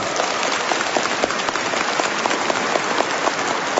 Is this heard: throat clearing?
no